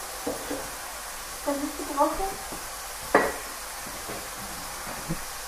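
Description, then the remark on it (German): Meat sizzles steadily in a frying pan, being fried before it is taken out so the vegetables can be sautéed, a constant crackling hiss throughout, with a faint voice-like murmur early on and one sharp utensil clink midway. “Wir haben gerade eine Schale aus der Schublade genommen, damit wir das Fleisch gleich aus der Pfanne nehmen können, um das Gemüse dann anzubraten.”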